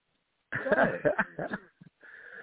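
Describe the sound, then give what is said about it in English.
Loud, raspy heavy breathing, a few wheezing gasps in quick succession, then a short pause and a steady airy hiss from an oxygen tank. “That's my oxygen tank.”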